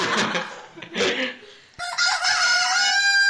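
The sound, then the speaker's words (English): A rooster crows loudly, a couple of rough squawking bursts followed by a long, drawn-out final note held steadily to the end, with no one talking. “Wait, so you're a chicken? I was more of a rooster, but...”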